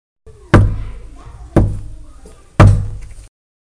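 Three heavy knocks on a wooden door, evenly spaced about a second apart, each with a booming low thud and a short ringing decay, with no voices.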